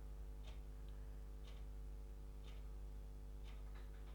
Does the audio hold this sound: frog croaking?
no